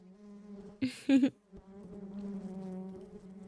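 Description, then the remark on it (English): A worker bee buzzes steadily, its hum holding a low droning pitch, with two brief louder bursts of wing noise near the start before the buzz settles into a continuous drone. “I'm a simple, humble worker bee.”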